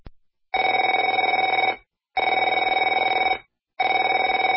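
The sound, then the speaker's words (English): A telephone rings in three long, steady bursts separated by short silences, a loud, bright electronic trill with nobody speaking. “Afraid to answer it?”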